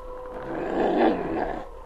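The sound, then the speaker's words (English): A lone female wolf on top of a hill howls in one sustained, wavering cry that swells to a peak midway and then tapers off, heard on its own at moderate loudness. “Sergeant, you hear that? Yes, a wolf howl.”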